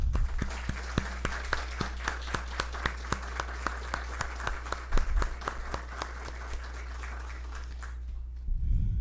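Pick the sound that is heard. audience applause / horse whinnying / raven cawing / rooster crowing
audience applause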